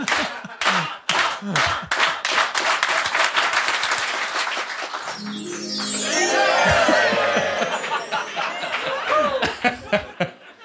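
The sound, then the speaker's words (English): An audience at a live show claps in a run-up, slow separate beats that quicken into fast, dense applause, then loud cheering, whooping and laughter swell over it before it fades. “So let's clap, let's like clap it in like a run-up.”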